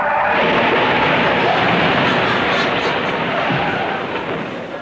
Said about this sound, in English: You know, his first week on duty, well, you know, the car crashes and all the sound effects they put together for that, which must have been great fun to put together.